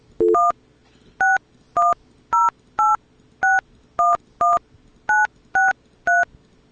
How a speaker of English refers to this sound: Should have heard the phone ring. There we go. Now we hear it.